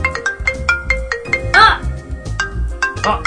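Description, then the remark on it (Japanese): A mobile phone ringtone from an incoming call to a New York City phone number plays loudly, a repeating electronic melody of bright, evenly spaced tones with a brief busier burst partway through. “なりましたね、これ実は僕の電話番号です。”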